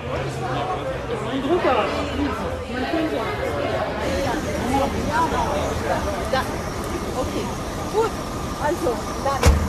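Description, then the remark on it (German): A bus engine idles with a low, steady rumble beneath lively crowd chatter, many voices talking at once, as the bus prepares to leave Berlin for the Polish Baltic coast. “Alle sind mit dem Zug nach Berlin angereist und von hier aus geht es mit dem Bus weiter nach Polen.”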